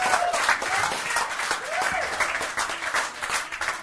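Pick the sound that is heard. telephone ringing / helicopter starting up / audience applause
audience applause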